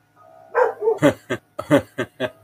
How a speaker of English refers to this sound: I got to go see what the dogs are barking at. I will be right back.